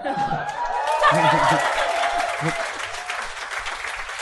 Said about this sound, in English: Let them clap. Oh, yeah, no, you're right. Let them clap. You're right. Let clappers be. Little smattering there. I got two smatterings back to back.